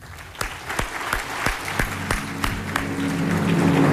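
A large crowd at a National Rifle Association convention applauds as Chairman John Dingell is introduced. It starts with a few sharp, distinct claps that quickly swell into dense, sustained clapping, growing louder and fuller toward the end, with a faint murmur of voices underneath.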